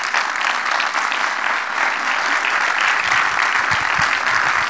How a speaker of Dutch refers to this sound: Ik wil jullie in elk geval bedanken voor jullie aanwezigheid en jullie deelname en ook alle leden van het panel van harte bedankt en geef ze nog een hartelijk applaus.